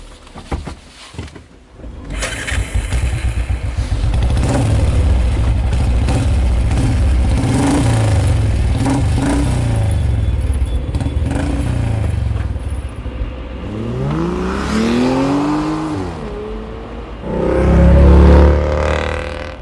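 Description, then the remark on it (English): A car engine rumbles steadily, then revs with a rising whine and roars louder as the vehicle pulls away, with no voices. “Come on, get in the car. Do you want to drive, or would you prefer me to drive?”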